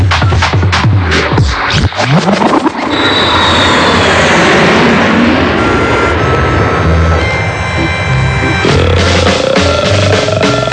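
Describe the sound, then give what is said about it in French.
A loud, steady airplane engine roar heard on board a plane in flight, with some clattering at the start and a faint whine rising near the end. “Vous savez, c'est très gentil de votre part de m'accueillir à bord de votre avion.”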